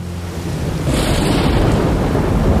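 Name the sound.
thunder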